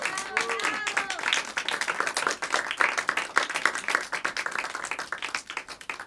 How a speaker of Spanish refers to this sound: Gracias a los maravillosos músicos que nos acompañaron esta noche. Un aplauso para ellos de nuevo, por favor.